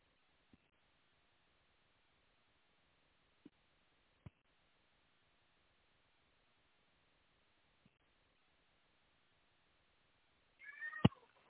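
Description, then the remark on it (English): A few faint clicks at home, then near the end a cat lets out a single short meow with a wavering pitch. “My cat, hello.”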